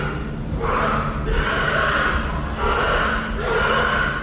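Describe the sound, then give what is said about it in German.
Pigs grunt and snort inside the windowless, low barns of a farm, in a steady run of rough, breathy bursts, about four in a few seconds, over a constant low rumble. No one speaks. “Kein Schwein zu sehen, aber zu hören.”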